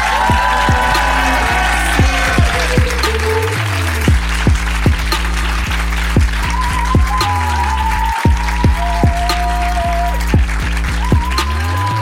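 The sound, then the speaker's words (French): Loud, sustained applause from a large crowd runs the whole way through, dense and steady, with some musical tones sounding underneath it. “Faites un tonnerre d'applaudissements pour OJJ.”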